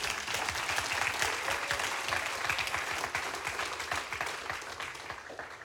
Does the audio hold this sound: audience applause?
yes